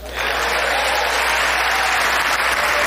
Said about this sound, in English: Yes, applause, everyone. For the mysterious boogeyman of wokeism.